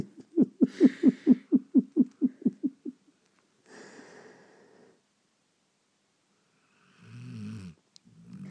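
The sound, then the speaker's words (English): A voice imitates a 2-year-old dog's snoring breath: a rattling flutter of about a dozen quick pulses, then a softer airy exhale and, after a pause, a brief rough snort. “No, that was on an out breath though. It's when they breathe in and then stop.”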